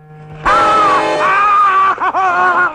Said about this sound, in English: pats him on the cheek and he screams.